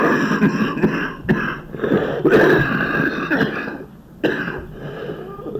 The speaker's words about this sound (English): Is this talking making your cough worse? I don't think so. Smoking probably is.